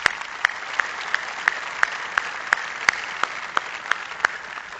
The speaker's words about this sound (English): And my good friend from Rocky Mount, North Carolina, Lieutenant Governor Jim Gardner, thank you for being here and being a great MC to this event. Please give Jim Gardner a round of applause.